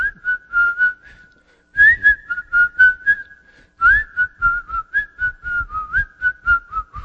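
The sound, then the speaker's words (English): Someone whistles a bright, bouncy melody in three phrases separated by short pauses, the notes clear with a lilting, cheerful rhythm and no talking. “And as she comes into school, she comes in to sit at her desk at work, you just hear her whistling this.”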